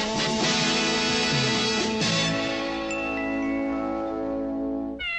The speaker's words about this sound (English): he just had an adorable little kitty cat just meowing. Did you hear it?